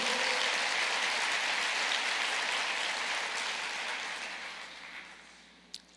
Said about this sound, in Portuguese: Amém? Pode aplaudir o Senhor.